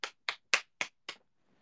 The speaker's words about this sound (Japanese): 週明け23日からなんとメア初のコラボカフェ開催。いや、ちょっと大きく拍手させて。